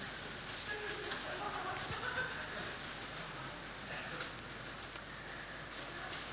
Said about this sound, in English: And as the rain comes down, hail landing on me. I kid you not, there's hail landing on me.